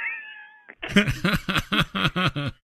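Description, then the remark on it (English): A voice mimics a cat, letting out a rapid string of about eight loud meows in quick rhythm, following a brief, higher-pitched tonal sound at the start. “Now, I'm sure Brent was probably mad that he wasn't also playing the cat.”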